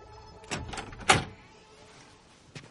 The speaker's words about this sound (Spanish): Víctor abre la puerta de su casa.